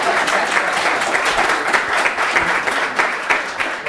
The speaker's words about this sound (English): Yeah, yeah. Fantastic. Thank you so much. Now, we're going to give you round of applause.